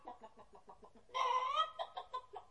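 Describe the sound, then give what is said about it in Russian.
A speckled hen clucks in short, steady bursts, breaks into a louder drawn-out cackle, then returns to quick clucking as it struts about the yard. Clear, with no voices. “Ну, во-первых, рябую курочку.”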